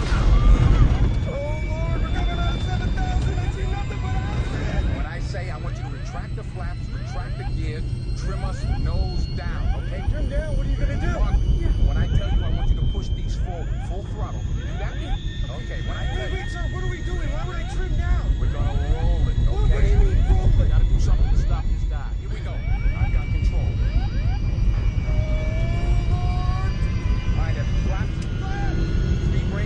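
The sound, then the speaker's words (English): An airplane plunging in an uncontrolled dive, in a clip from the film Flight: a loud, steady roar of engines and rushing air fills the whole stretch, with tense voices of the pilot and co-pilot fighting to regain control, reporting a jammed stabilizer, and thin tones whining above. “They began with a clip from Flight, in which the pilot and his co-pilot are fighting to regain control of their plane as it plunges toward the ground.”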